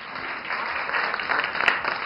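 applause

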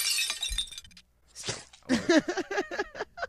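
glass breaking sound effect

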